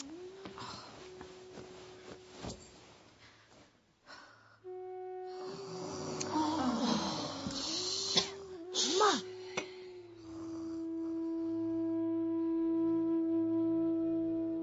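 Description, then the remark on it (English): Someone snores in a steady, droning rhythm, with rough, rattling snorts and wheezy breaths in the middle before it settles back into a low hum. Nobody speaks. “Snoring so loudly.”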